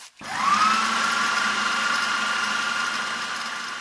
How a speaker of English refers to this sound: I'm going to put maybe a couple of cups full of water into the blender, then add paper until it turns into a nice thick paste.